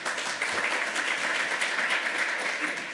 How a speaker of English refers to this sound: At the 1 minute mark, when those 4 minutes are up, I ask for extend time, and that's when you guys applaud if you like it. Applaud if you like it.